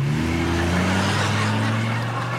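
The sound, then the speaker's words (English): A truck engine revs steadily as someone steals the truck at night by a campfire and tent, its low droning pitch rising and sliding as it accelerates away, loud and continuous with no voices. “Somebody's stealing my truck.”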